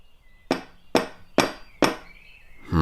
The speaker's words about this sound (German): Wo ist die Klingel? Es gibt keine. Dann werden wir mal den Türklopfer testen. Was für ein riesen Eisenring.